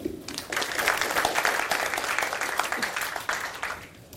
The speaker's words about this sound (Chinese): 好，那我们现在就掌声欢迎一下